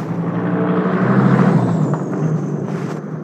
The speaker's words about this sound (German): Es tut mir echt leid. Normalerweise fahren hier nie so viele Autos längs.